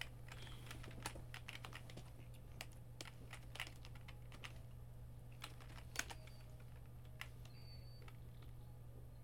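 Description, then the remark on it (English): Irregular bursts of keyboard typing, sharp plastic clicks and taps in quick uneven runs, over a low steady electrical hum with no voices; a computer keyboard held in a lap, used to play the game Learn Japanese to Survive Kanji Combat. “I gotta use the keyboard on this one, so I'm switching up, putting the keyboard in my lap here.”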